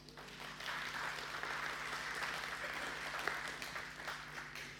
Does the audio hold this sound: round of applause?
yes